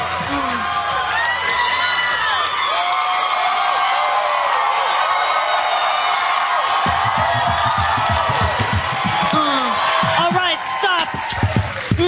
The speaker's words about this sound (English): Enough of this clapping.